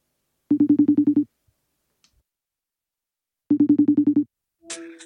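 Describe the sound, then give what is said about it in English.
A telephone rings twice as a call is placed for a phone interview, each ring a rapid buzzing trill of about eight pulses, separated by a few seconds of silence, followed by a brief muffled clatter at the end. No one speaks. “And then it was just a question of hoping that he answered his phone.”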